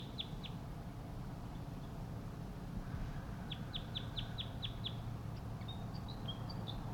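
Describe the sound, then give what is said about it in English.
A wild crossbill, one of four wild crossbills, gives sharp, high "toop" calls: a pair first, then a quick run of about six, followed by a few scattered higher notes over a steady low background rumble. “The tooping call from one of the wild birds.”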